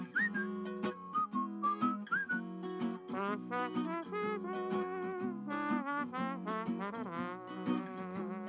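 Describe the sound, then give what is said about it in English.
Someone whistles a cheerful melody at the end of a song, the notes gliding and bouncing in a steady rhythm for several seconds, ending with a little trombone-like sound, with no talking. “I love the whistling that little trombone sound that you get at the end there.”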